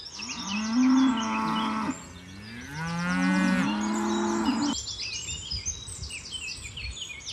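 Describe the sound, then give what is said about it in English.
A brown cow on a farm bellows loudly twice in long, drawn-out moos, followed by quieter birds chirping in the background as the calls fade. “when you mentioned the roaring cow, I knew the brown one always roars”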